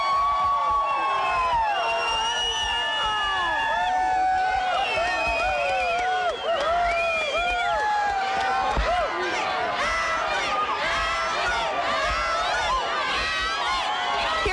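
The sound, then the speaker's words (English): A dense, continuous roar of many voices cheering and shouting together, steady and loud throughout, with overlapping calls and excited whoops rising above the crowd noise, as musher Allie Zirkel finishes the 2014 Iditarod sled dog race in second place. “The crowd.”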